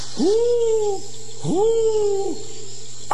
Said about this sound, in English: It's that owl again. Disturbing my sleep. I was had such a comfortable sleep when he came and he disturbed it.